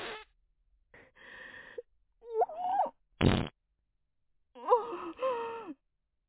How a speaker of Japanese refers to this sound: お便秘真っ最中の、こんなおなら。